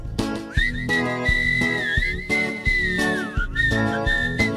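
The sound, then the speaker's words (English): A person whistles a bright, wavering melody, meant as the whistle of Old Mr. Walrus, loud over a bouncy musical backing with steady beats and no talking. “Well, have you ever heard a walrus whistle?”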